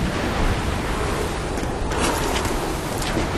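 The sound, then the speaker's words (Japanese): A steady, dense roar of heavy rain from a large typhoon, with strong wind, fills the whole clip, a broad hissing wash with gusty swells and no voices. “この雨が収まってから改めて登ったらどうじゃ。”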